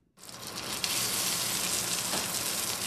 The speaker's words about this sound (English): We are miles from the financial district, inside the busy kitchen of New York catering company Sonier & Castle. That sizzle is the sound of swine near the end of the line. This is pork belly that we had cooked in duck fat earlier